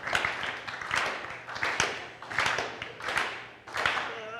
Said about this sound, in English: Let's do a slow clap